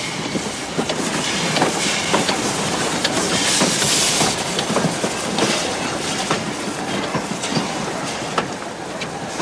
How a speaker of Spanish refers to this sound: Caminan a lo largo de la vía junto al tren que lentamente está llegando al andén. ¡Es el de Madrid!